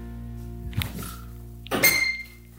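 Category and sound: household object, door being opened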